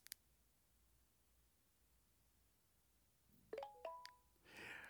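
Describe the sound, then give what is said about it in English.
A short electronic chime signalling the TalkBack screen reader switching off: a few quick tonal notes, fairly quiet, preceded by faint clicks and followed by a soft burst of noise. “We heard that chime or that noise signifying that TalkBack has been turned off.”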